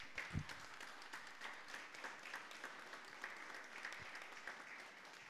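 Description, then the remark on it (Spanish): Steady applause from an audience at a municipal council session fills the whole stretch, dense overlapping claps at an even, moderate level, with no one speaking. “Un aplauso, por favor.”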